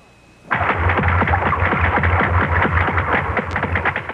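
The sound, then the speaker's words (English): A whale vocalizing deep down in the ocean: after a brief quiet moment, a loud, steady run of rapid buzzing clicks over a deep, rumbling grunt-like drone that continues without pause to the end. “If you agreed with these guesses, you've been fooled, because each sound was made by a whale. That's right, a great big blubbery old whale just buzzing and clicking and grunting away deep down in the ocean.”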